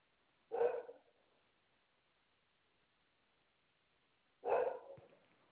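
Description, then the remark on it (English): A border collie and Labrador mix dog of about 45 pounds barks twice, single sharp woofs separated by about four seconds of quiet, loud, with no talking. “Oh, it's a border collie, lab mix.”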